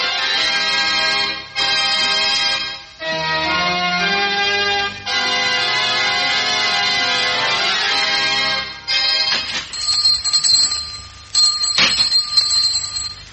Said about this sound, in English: That's funny. There's no one here. Could have sworn I heard the door open.